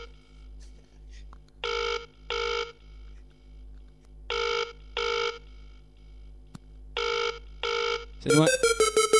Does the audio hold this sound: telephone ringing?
yes